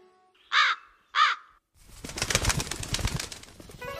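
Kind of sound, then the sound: bird, crow cawing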